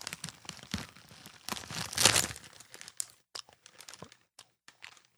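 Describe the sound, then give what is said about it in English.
Moist chewing of a soft, sweet, green-apple-flavored grass candy, with irregular crinkly bursts that are loudest early on and thin out into scattered smacks and clicks. No one speaks. “I'll take a bite of grass.”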